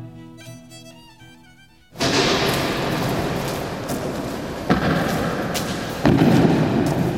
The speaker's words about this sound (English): The door of the Holocaust Memorial Tower in Berlin's new Jewish museum clicks shut behind me, so I can experience the feeling of isolation, emptiness, and disorientation within.